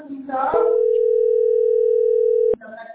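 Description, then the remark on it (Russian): A single steady telephone tone sounds for about two seconds, loud and clear, with brief muffled voices just before it and right after it cuts off. “Это звонит теперь.”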